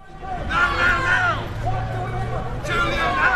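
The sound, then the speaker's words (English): A small crowd of protesters shouts outside a London courthouse in support of Julian Assange after his bail hearing, several raised voices overlapping in a steady, loud din over a low rumble, easing briefly before the shouting swells again. “A small but hearty band of protesters lined up outside the courthouse, shouting their support for a man they now deem a political prisoner.”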